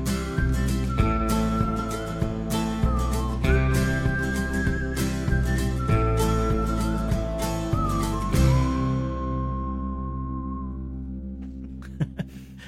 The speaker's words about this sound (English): I was looking at who did the whistling, because it's like, did he sample that?